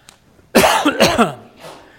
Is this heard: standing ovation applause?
no